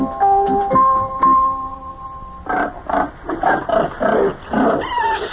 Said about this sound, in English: Look at that. Look at all the baby pigs in there.